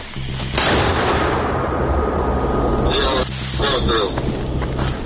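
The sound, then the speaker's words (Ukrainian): A Ukrainian army mortar crew fires on massed Russian infantry in the Kharkiv direction: a loud, heavy blast bursts in early and another hits about three seconds later, each ringing out over a steady low rumble that lasts the whole time. “І це чергова робота мінометного розрахунку.”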